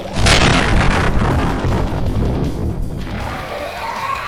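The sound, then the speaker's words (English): A Humvee's gas tank explodes after an incendiary round is fired into it, with a sudden loud boom, followed by a long rumbling roar that slowly fades into crackling flames. No voices are heard. “An incendiary round into the vehicle's gas tank ended the feeding frenzy.”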